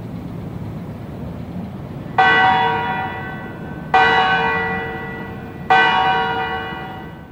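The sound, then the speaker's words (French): A large bell in the central tower of the Quebec Parliament building tolls three times at slow, even intervals, each resonant strike ringing out and fading over a steady low rumble of outdoor background noise. “Alors, c'est les cloches de la tour centrale du Parlement qu'on entend”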